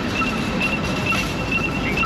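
A high-pitched electronic alarm beeps repeatedly from a hacked Lime bike-sharing rental e-bike in Berlin, short bright tones recurring every half second or so over steady rumbling street and traffic noise.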